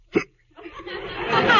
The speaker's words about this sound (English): I can't sleep while you're hiccuping like that. Well, I'm sorry, but I can't help it.